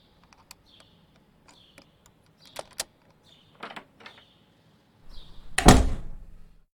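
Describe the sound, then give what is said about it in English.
A lock clicks and rattles with a few sharp metallic ticks and scrapes, then a door swings open with a loud thunk and a brief creaking rush. No one speaks. “Just let me unlock this door.”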